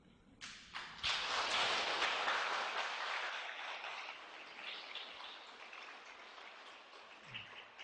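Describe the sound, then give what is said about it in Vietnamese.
A crowd bursts into sustained applause, a dense, loud patter of many hands clapping that swells quickly and then gradually thins out over several seconds. “Tràng pháo tay này là thể hiện đã phát tâm, phải làm thật, không thể chỉ vỗ tay thôi là xong.”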